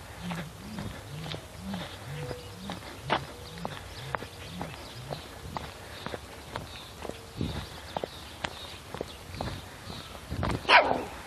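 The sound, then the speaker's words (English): Dogs bark and yelp outdoors as a neighbor walks them, amid a steady patter of footsteps, with a louder burst of barking near the end. No one speaks. “Neighbor walking the dogs.”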